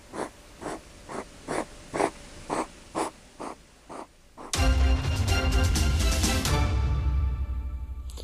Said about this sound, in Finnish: Horroksessa olevan siilin hengitys on hyvin epätasaista. Pitkiä hengitystaukoja seuraa jakso kiihkeitä hengitysliikkeitä.